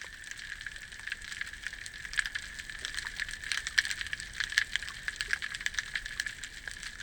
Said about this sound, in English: So when you're diving while you're up waters or in the river, there's this beautiful crackling sound, and it's actually tiny, tiny little shrimp that are making this popping sound, and it's their bodies kind of clicking against themselves.